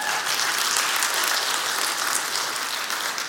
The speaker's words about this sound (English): We can clap to that. That's a great thing.